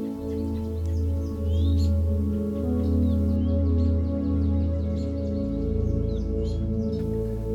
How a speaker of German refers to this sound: Was hörst du? Hörst du vielleicht ein paar Vögel?